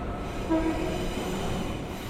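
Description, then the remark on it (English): A train rolls steadily along the rails with a continuous low rumble, and a faint horn-like tone rises briefly midway. No one speaks. “Now, let's imagine that Alan and Claire are on the train going home after work.”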